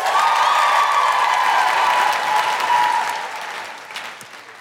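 An audience claps steadily in a dense, sustained burst with a few cheers mixed in, welcoming an 11-year-old girl called up from the audience, holding loud for about three seconds before tapering off. No one speaks.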